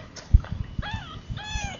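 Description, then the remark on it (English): Two thin, high-pitched mews from newborn kittens, one after the other, over faint soft thumping in the background. “Kittens mewing are newborn kittens.”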